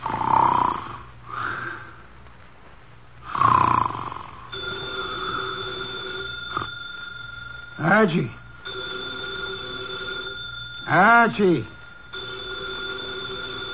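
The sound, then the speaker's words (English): Loud snoring through the nose from Nero Wolfe in his office opens the scene, then a telephone on his desk rings with a steady, sustained tone that carries on while more snorting breaths break in now and then. “The phone, if you please, Mr.”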